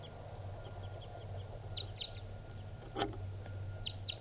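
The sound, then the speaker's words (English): Wild birds calling back and forth, mostly the male calling with females responding: short, high chirps in quick pairs and small clusters, fairly faint, with a steady low hum underneath and one brief click in the middle. “Mostly the male calling here. Females are responding.”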